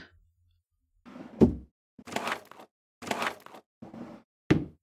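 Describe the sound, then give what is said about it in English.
The top drawer of a nightstand being opened: a sharp wooden thunk, then a few short sliding scrapes and rummaging bursts, ending with another solid knock. “It's right there in the top drawer of my nightstand.”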